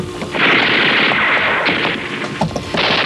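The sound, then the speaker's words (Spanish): Loud, sustained gunfire from criminals shooting as they give chase through the dark corridors of an old building fills the whole clip, a dense roaring burst of shots with a few sharper cracks standing out near the end; no voices are heard. “los criminales los persiguen por los pasillos oscuros del edificio, disparando contra ellos.”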